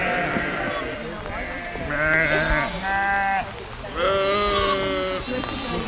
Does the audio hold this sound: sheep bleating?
yes